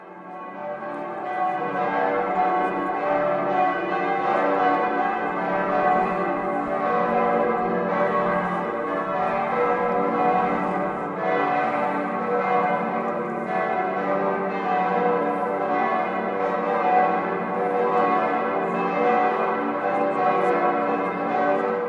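Large church bells in Bremen ring continuously with dense, overlapping peals, producing a rich, sustained wash of tones that stays steady and fairly loud throughout, with no voices.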